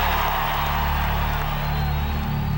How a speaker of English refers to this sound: There was a huge just outpouring of noise and cheering, and Daly was just soaking it all up. Now listen, the applause won't stop.